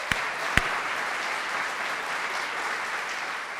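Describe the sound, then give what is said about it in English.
A live audience at the Kennett Library in Kennett Square, Chester County, breaks into a steady round of applause for the library, a dense wash of many hands clapping evenly throughout, with two sharper claps standing out at the very start. “Can we give the Kennett Library a round of applause?”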